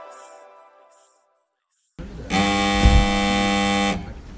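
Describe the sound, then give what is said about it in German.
A rescue alarm horn at the heliport in Zermatt, sounded when a person must be rescued by helicopter, blares in one long, steady, loud blast with a dull, buzzing tone lasting about a second and a half, after a short pause following some quieter voices. “Der dumpfe Ton kehrt man auf dem Heliport zu Zermatt, wenn es irgendwo eine Person mit dem Helikopter zu retten gibt.”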